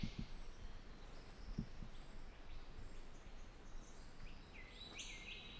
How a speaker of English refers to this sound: This is on the trail to Moran Falls. Falls are quite audible in the background right now. That's all the white noise one is hearing.